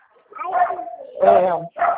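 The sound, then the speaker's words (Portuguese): A dog barks three times in quick succession, loud, each bark a sharp, tonal burst with short gaps between them. “Cachorro tá latindo aqui, tá uma barulheira.”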